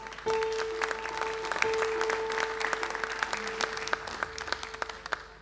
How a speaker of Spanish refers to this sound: Un aplauso.